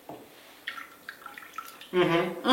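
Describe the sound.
A hand dips and splashes lightly in a small basin of cold water, a few soft sloshes and drips, before a voice briefly cuts in at the end.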